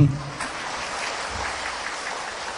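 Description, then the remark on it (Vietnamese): A crowd of Buddhist followers claps steadily in a dense, even patter of many hands, sustained for a couple of seconds at moderate loudness, with a brief voice at the very start. “Đó, quý vị cho tràng pháo tay.”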